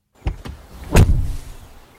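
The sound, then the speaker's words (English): The door of a Volkswagen Jetta sedan swings shut in a 2012 Volkswagen commercial, with a single solid, heavy thunk, preceded by a couple of light mechanical clicks and followed by a brief low rumble fading out. No voices. “The solid thunk of the door on the Jetta, another example of Volkswagen quality.”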